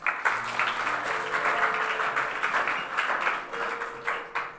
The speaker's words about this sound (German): Deswegen dürft ihr ihm Applaus geben.